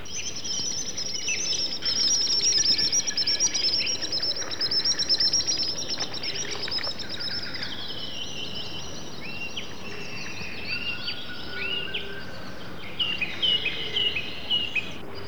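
Common sandpipers fly low over the water giving piercing, high whistling calls, repeated in quick bursts throughout, with a steady buzzing insect chorus and faint birdsong filling the background. No one speaks.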